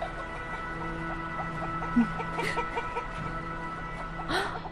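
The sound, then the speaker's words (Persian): Chickens cluck in short, scattered bursts over a steady background drone, with a slightly louder squawk near the end; the birds are not loud. “مرغا رو ببین، شما مرغ نگه میداری؟”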